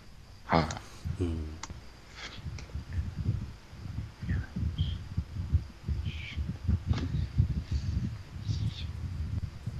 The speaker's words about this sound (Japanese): 扇風機つけてますか、誰か。 僕です。聞こえますか？